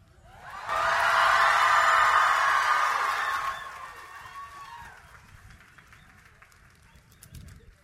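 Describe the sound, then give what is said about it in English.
An audience at a gathering in Charlotte, North Carolina, breaks into loud, dense applause for the organizers that swells quickly, holds steady for a few seconds, then thins out and fades into scattered crowd noise. “I think they are worthy an applaud.”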